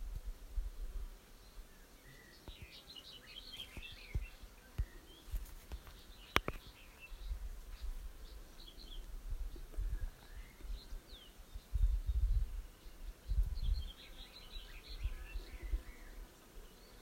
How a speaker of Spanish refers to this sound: Y guarde el foco de su atención en el canto de los pájaros.